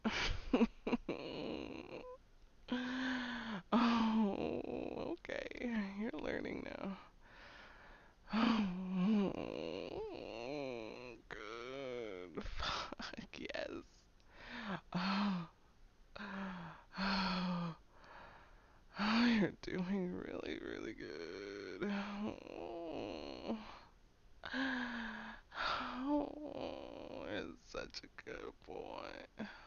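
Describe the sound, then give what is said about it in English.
Rapid, heavy gasping breaths repeat in short bursts, with brief pauses between them. Many carry a voiced, moan-like tone that rises and falls. The gasps are fairly loud, and no clear words are spoken. “Your chest is rising and falling pretty fast. Are you having trouble breathing?”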